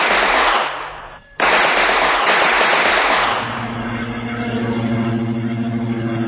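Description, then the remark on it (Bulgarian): A loud volley of rifle shots from a firing squad executing prisoners tied to posts cracks out, then after a brief pause a second blast roars and rolls away, fading into a low, steady droning tone. “Завържете ги на стълбовете. Никога! Огън!”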